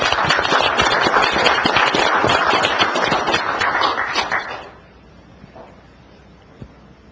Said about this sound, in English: How about a round of applause for all of our...